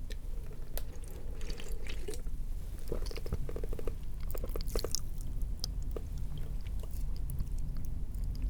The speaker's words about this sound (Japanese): 炭酸のお酒を飲んだ後、口を開けるとパチパチって音がするの分かる。一瞬だけどわかるかな。こっちのお耳でも。